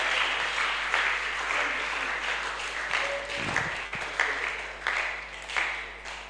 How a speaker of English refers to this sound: Oh, come on, let's clap. Let's give glory to God.